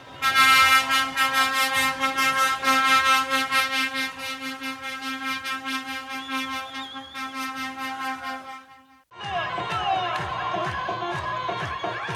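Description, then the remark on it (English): A lively street celebration by a group of youth on top of an 18-wheeler truck in Bethlehem, celebrating passing the Tawjihi graduation exams: loud, sustained horn-like blaring tones over rhythmic pulsing, with crowd noise and whistles, briefly dropping out before a second noisy burst of cheering and honking. “The first one is of a group of youth celebrating on top of an 18-wheeler truck in Bethlehem.”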